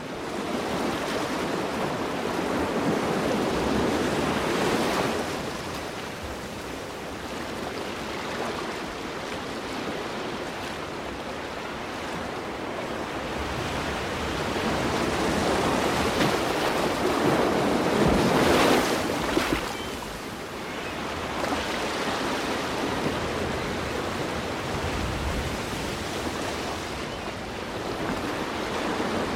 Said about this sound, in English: And when you just sit and listen to a natural soundscape, birds, wind, water, where does it take you?